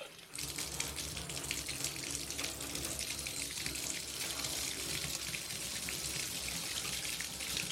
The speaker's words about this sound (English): I didn't like taking baths. Sometimes I would run a bath, then swish the water back and forth with my hand, pretending to get into it.